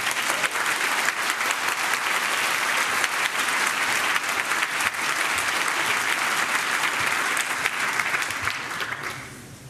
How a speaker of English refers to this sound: please give us a warm round of applause for our next speaker